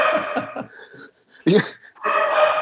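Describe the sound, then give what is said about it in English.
A six-month-old puppy that wants to play makes growly, grumbling vocal sounds in short bursts, with a sharper yelp-like outburst midway and more rough noises after, fairly loud, with no talking. “So I got the dogs in the background. Oh, jeez. we got a new puppy, 6 months. And he just wants to play.”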